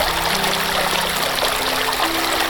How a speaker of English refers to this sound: And let the river flow. Take you away. Catch you on the other side of the river's edge.